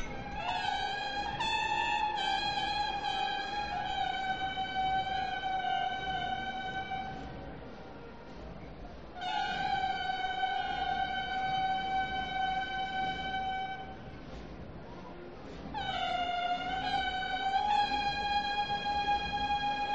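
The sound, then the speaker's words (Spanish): Three long, blaring blasts from wheeled Roman-style processional horns about 3 metres long, which accompany the Daughters of Jerusalem and the Pretorium float in a Murcian procession; each held several seconds with a brief pause between, bright and brassy with a slight rising swell at the start of each note. “que ya nos habla de que acompañaban a las hijas de Jerusalén y al paso del pretorio, y nos la describía como bocinas con ruedas de estilo romano y con de 2 metros. Ahí están sonando, pregunto.”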